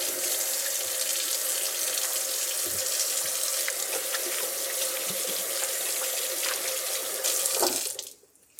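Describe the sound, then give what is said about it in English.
Steady rushing of kitchen tap water pouring into a sink for several seconds, with small splashes and shifts in the flow as hands are washed after handling raw chicken, then the water cuts off abruptly near the end. “I'm going to wash my hands again because I didn't avoid completely touching all that chicken.”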